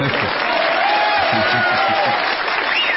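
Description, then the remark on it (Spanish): An audience applauds steadily, a dense, continuous wash of clapping that holds at an even loudness throughout, with a voice talking faintly beneath it. “Los aplausos vienen porque me está asaltando el señor Edward G. Robinson.”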